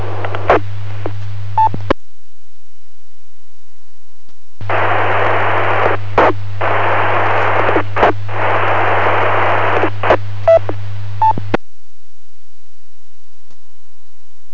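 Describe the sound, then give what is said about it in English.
Two bursts of hissing static from a weak handheld amateur radio transmission as someone tries to check in to a net in Central Clatsop County, the first short and the second several seconds long, each cut off by squelch clicks, with a low hum underneath and no clear voice. “Somebody trying to check in.”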